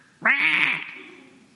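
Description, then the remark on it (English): A single loud, harsh squawk from a young seagull on a windy beach, a brief nasal cry that trails off into quiet background noise. “And I was interrupted by a squawk.”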